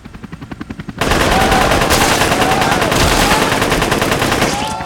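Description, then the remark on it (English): Rapid bursts of automatic gunfire from terrorists on a freighter deck start in a quick, even rhythm, then swell into a loud, dense barrage of overlapping shots that roars on without pause to the end. “But the flashes he had expected to see milliseconds before the terrorists' bullets smashed through his mortal body never came.”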